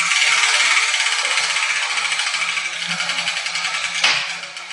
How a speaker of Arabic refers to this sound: يا جدتي، لقد سقطت كرة حرف الباء من الدولاب. صحيح يا عزيزتي، إنه حرف الباء